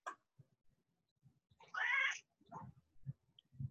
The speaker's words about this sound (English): I hear you. I hear the cat.